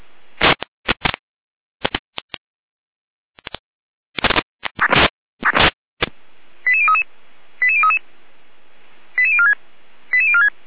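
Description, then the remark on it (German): Harsh bursts of radio static crackle on and off, then four evenly spaced sequences of rapid, stepped electronic alert tones over a faint hiss. Each is a short run of beeps jumping between pitches. It is a German fire brigade dispatch alerting Feuerwehr Triptis to a fire alarm system in Oberpöllnitz. “Achtung, Alarmierung.”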